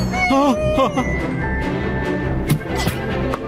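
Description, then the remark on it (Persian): A few chickens cluck in short, pitched bursts near the start, then a busy, noisy commotion carries on with scattered sharp sounds and more fowl calls underneath. “وای نه، مخش رفل مرغا.”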